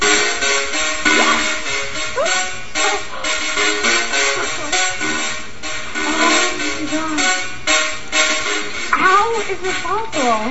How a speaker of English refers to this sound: The coils are firing at such a high frequency that sparks literally create sound waves when they fly through the air, which is nerdy.